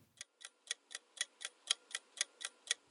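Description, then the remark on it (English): A clock ticks steadily on its own as the intro to the AFS On the Clock update segment: about a dozen crisp, evenly spaced ticks at a brisk rhythm, clear with no voices. “It's time for AFS On the Clock. Updates in 60 seconds or less.”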